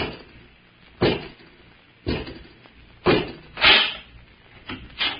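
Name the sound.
door being opened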